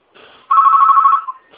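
A telephone rings once: a soft lead-in, then a loud, steady electronic trill lasting under a second before it cuts off. Nobody speaks.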